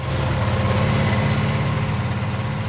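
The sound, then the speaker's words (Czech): An old 1996 Ski-Doo Alpine II snowmobile, used to groom ski trails around Dolní Kalná, idles steadily, a loud, continuous low rumble with a slightly pulsing throb and no voices. “Vyroben v roce 1996, je to Skido Alpin 2.”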